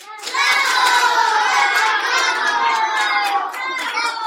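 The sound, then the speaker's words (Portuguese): A crowd, jury included, rises and bursts into dense, steady applause for a rooster's crowing at a national contest, with excited cheers and high-pitched shouts mixed in, loud and sustained throughout, easing only slightly near the end. “Fez silêncio na plateia, mas, de repente, todos se levantaram a bater palmas, até o júri.”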